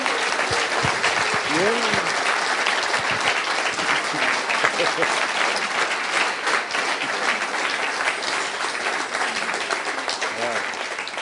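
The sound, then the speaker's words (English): Sustained audience applause fills the whole stretch, a dense, steady wash of many hands clapping at an even loudness, with a few voices murmuring and calling out underneath. “Give him a big hand clap.”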